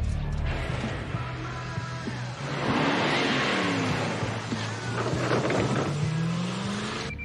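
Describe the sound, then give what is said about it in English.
A car engine hums steadily, its pitch swelling as it revs and pulls away, with mechanical rattles layered over the continuous rumble and no talking. “Sammy gets in the car.”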